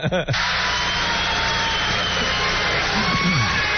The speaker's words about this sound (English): They're all applauding now because Billy has finally decided to leave the stage. That's what you're hearing here.